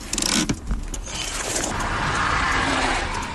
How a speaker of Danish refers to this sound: en helt almindelig mand i en ny indkøbt bil med en ny indkøbt trailer, der baserer sådan en ANPG-besat politibil, der så kører frem til ham og stopper ham.